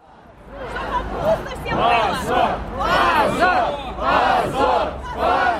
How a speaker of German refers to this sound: Schande, Schande, schreien die Protestierenden vor dem massigen Gebäude der Staatsduma in Moskau. Es sind keine oppositionellen Aktivisten, die die Abgeordneten beschimpfen, sondern es ist Russlands intellektuelle Elite.